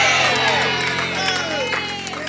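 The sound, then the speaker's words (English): An audience claps and cheers together for the Lord Jesus, steady rapid applause mixed with loud whoops and overlapping excited voices, holding a fairly constant level throughout. “Clap for the Lord Jesus.”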